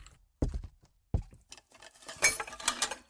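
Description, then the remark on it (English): A glass drops into a sink: two sharp, hard knocks followed by a bright, rattling clatter of glass against metal that builds briefly, then fades. No one speaks. “Seth gulped down the rest of his drink and dropped the glass into the sink.”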